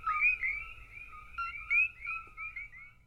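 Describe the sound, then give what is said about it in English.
A chorus of coqui frogs chirping on the Big Island of Hawaii, with many sharp two-note calls repeating and overlapping in a steady rhythm over a low, quiet background hum. “That was the unmistakable chirp of the frog found in Hawaii's national parks on the Big Island.”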